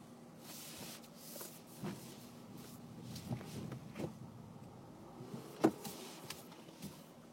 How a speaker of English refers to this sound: Okay, close garage door. Let's go.